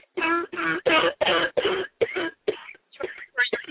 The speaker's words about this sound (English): Keep coughing, sister. Yeah.